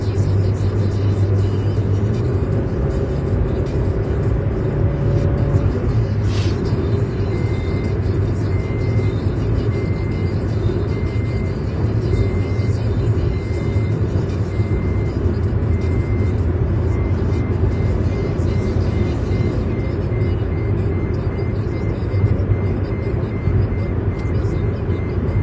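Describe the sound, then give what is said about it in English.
A car's seatbelt reminder beeps in a steady, evenly spaced series of short tones, triggered by a case of drinks on the other seat being detected as a passenger, persisting over the constant low rumble of the engine and road noise inside the moving vehicle. “beeping is the car deciding that this case of drinks in the other seat is a person and that I should really buckle the seatbelt over there.”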